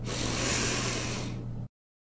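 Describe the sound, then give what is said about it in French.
A long, deep breath rushes steadily for under two seconds to end a practice, soft and airy with a faint low hum beneath, then stops abruptly into silence. No one speaks. “Par une respiration profonde, nous terminons notre pratique.”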